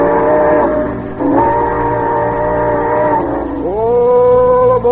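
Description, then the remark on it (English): A loud train whistle blows in three long, sustained blasts as a train departs, each sliding up in pitch as it starts, dominant with no voices. “ride with us aboard the Summer Show Train back to the year 1934”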